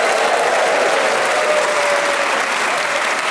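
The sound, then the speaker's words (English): The studio audience of the show Just a Minute applauds loudly and steadily throughout as the week's four players are introduced, a dense wash of clapping with some cheering mixed in, sustained at full volume without any speech. “Please whoop and cheer for all four of them.”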